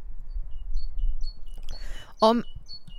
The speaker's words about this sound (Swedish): Nu är vi på en helt annan location. Men man kan, jag tror att man faktiskt kan höra fåglarna som kvittrar. Gud, vad fint det är.